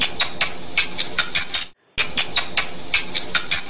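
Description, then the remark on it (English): Rat laughter shifted down into human hearing: a rapid, steady run of high, chirrupy chirps that stops briefly about halfway through, then resumes at the same pace. “It sounds to us like a sort of chirrupy chirp.”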